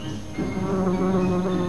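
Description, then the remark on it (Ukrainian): Flies swarming over a person: a steady, droning buzz hums continuously for the whole moment, several insects overlapping in a wavering low-pitched whine with no voices present. “Що ж ти таке, що тебе так мухами обліпило?”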